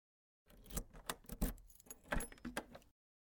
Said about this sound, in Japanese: はいはい、分かってますって。今鍵開けてあげますからね。